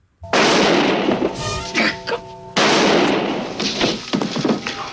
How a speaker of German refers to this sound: Ein Schuss auf JR, der in vielen amerikanischen Wohnzimmern einen Schock auslöst.